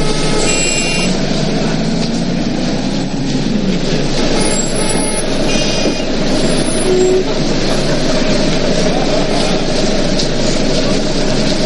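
Loud, steady city street noise on Princes Street, the main avenue of the New Town, busy with shops, pedestrians, buses and trams, dominated by a tram rumbling past, with metallic squealing from the wheels on the rails and faint voices mixed into the din.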